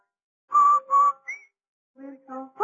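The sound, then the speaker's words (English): A person whistles a short, bright tune of a few sustained notes with a quick upward slide, followed by a brief pause and a couple of lower, fuller tones. “No wonder Rinso users whistle while they wash.”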